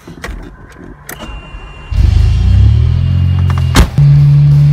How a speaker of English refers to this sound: So, what are we doing? We have a DeLorean.